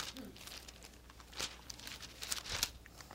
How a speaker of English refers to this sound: It just buys me time by turning the pages.